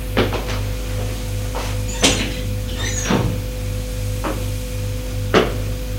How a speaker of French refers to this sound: Ferme la porte.